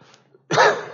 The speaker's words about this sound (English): Excuse me. I know coughing on this microphone probably is going to drown you out, but I do apologize.